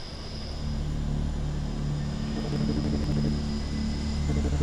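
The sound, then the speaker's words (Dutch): A steady, loud mechanical drone with strong low-pitched hums and a faint high whine, running continuously without pause: the largest water pumping station run by the municipality of Groningen, able to pump 3,800 cubic metres of water per hour. “Dit is ons grootste gemaal, die wij als gemeente Groningen zelf beheren.”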